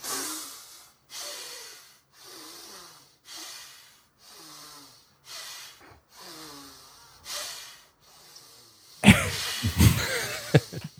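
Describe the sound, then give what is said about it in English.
A bald, bearded man, a political candidate, demonstrates a breathing method, breathing loudly in a steady rhythm: about eight forceful, breathy exhalations spaced roughly a second apart, ending in a burst of harsher, louder noise. “For listeners, you just heard testicular breathing, but what I saw is a bald man with a beard and”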